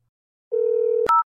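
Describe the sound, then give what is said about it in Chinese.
A steady phone ringback tone hums for about half a second, then cuts off with a sharp click and a brief, higher two-note beep as the line connects. No one speaks. “我电话可是要快通了呀。”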